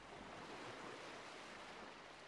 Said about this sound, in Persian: اینجا خوبه، صدای دریا میاد.